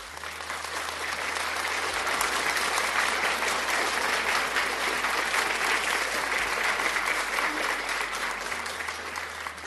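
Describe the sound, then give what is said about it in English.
An audience at the end of a church service applauds for the Holy Ghost, steadily and loudly for nearly ten seconds: a dense, sustained wash of many hands clapping with no pauses. “My brother, my sister, applaud for the Holy Ghost.”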